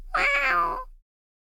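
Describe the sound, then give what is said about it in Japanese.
A single drawn-out meow from a stray cat, fairly loud, rising and falling over about a second before cutting to silence. No one speaks. “おいらはドラ猫。”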